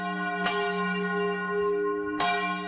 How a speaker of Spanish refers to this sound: Paciência, resistência física e constância inquebrantable. São os campaneiros de São João del Rei, no estado brasileiro de Minas Gerais, protagonistas da Batalha de las Campanas.